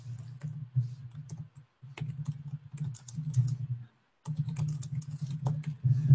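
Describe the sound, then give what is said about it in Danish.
Fast, uneven bursts of typing on a computer keyboard, entering text into a text field on a course web page, with crisp key clicks broken by two short pauses, over a steady low background hum. “Og så skriver vi her.”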